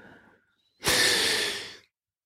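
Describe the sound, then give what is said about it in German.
A single long, loud breath lasting about a second, airy and rushing with a faint whistling wheeze from the bronchi of a person with asthma, preceded by a softer breathy rustle. “Du hörst meine Bronchien pfeifen. Ich habe Asthma.”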